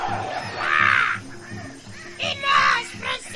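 Harsh crow caws ring out in a couple of loud bursts, one near the start and another toward the end, over a low rumbling background.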